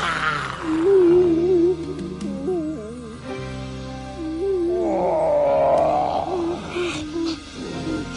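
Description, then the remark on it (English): A young boy's voice imitates a fire-breathing dragon's roar: long, wavering, growly vocal tones that swoop up and down in pitch, sustained fairly loudly for several seconds with a brief pause midway. “I'm a fire-breathing dragon.”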